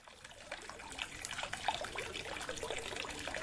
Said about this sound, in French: Voilà une fontaine.